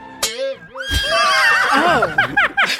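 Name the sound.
horse neighing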